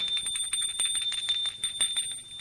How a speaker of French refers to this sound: Arrivé, par hasard, devant l'immeuble du grand-père, Jean Lazare. Il sonne à la porte.